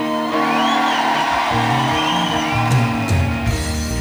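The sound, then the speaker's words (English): A crowd cheers and shouts steadily for about four seconds, with a few high, rising whoops cutting through the dense, loud roar and occasional sharp claps or yells near the end. “crowd in the house says thank you.”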